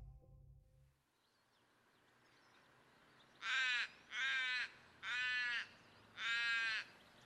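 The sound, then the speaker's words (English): A bird calls four times in loud, harsh, rasping caws, evenly spaced over a few seconds against a quiet outdoor background. “I like listening to the birds, I think because it's not a sound that I can hear all the time because of those high frequency noises, and that's where my hearing loss is at.”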